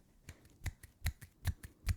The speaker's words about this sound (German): Das ist Klatschen. Also. Klatschen mit einer Hand.